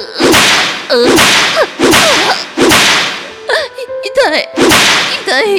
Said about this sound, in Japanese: もっとムチで叩いて。